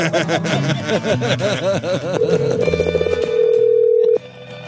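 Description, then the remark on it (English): A phone rings out on an outgoing call: a quick run of warbling electronic tones gives way to a steady held tone that cuts off abruptly. Fairly loud, with no talking. “I'm calling him again.”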